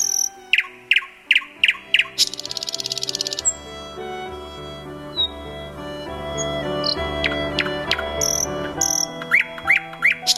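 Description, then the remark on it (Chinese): A small bird perched on the iron bars of a window sings through the night: bright, quick chirps and a buzzing trill repeat in short bursts, fairly loud, over a soft, sustained musical background; no one speaks. “窗户上的铁栏杆也停了一只小鸟，一整个晚上都展现最美的歌喉为艾丽莎加油。”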